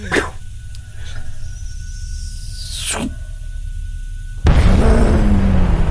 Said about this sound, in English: A massive plume. You ever seen, like... a gasoline explosion, you know, that really mucky, that's cool, that huge plume. We can feel the heat. Oh, yeah. Like, it isn't pushing you backwards, it hasn't got a concussion wave, but it is just a fireball.